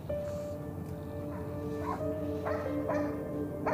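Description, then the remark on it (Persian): A dog barks repeatedly in short, sharp bursts at an irregular pace, heard over a steady low droning hum that runs throughout. “الان وحشی ترین و نفهم ترین سگ اینجاست.”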